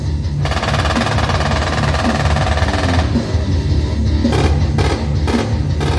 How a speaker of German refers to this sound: Das jugendliche Publikum wippt im Takt der Musik und der Gefechtsgeräusche mit den Köpfen.